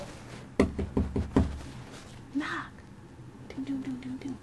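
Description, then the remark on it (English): Four firm knocks on a door in a quick, uneven burst, the first the sharpest, followed by quieter stretches with brief murmured voice sounds. “Knock on the door.”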